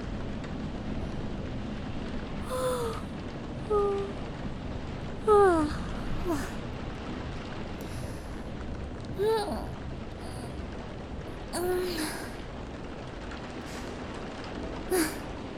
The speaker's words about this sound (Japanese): 嵐止まないね。